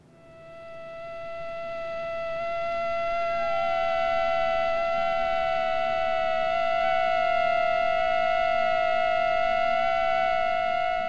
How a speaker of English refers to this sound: I tethered mosquitoes to the blunted end of insect pins using super glue and recorded their sounds, and then was able to go back and use software that's actually been developed to study bird sounds and listen in on what they're saying to each other.